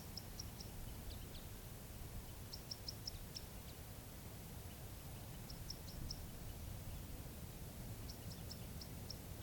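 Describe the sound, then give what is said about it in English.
An unseen crossbill, somewhere near where the recordist is parked, gives a song call almost like a fighting call: bursts of quick, high, chipping calls in short trill-like clusters, repeated every couple of seconds, fairly faint over a steady low rumbling hiss. “there's a crossbill somewhere near the place I'm parked. But I do not see the bird, and it's giving some kind of song call.”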